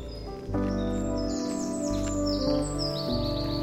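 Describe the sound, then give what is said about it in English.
A dunnock sings a quick, high, warbling twitter of thin, fluting phrases at the south end of a meadow, over a steady low outdoor rumble. No one speaks. “I can hear a dunnock singing at the south end of the meadow here. It's quite a subtle fluting song.”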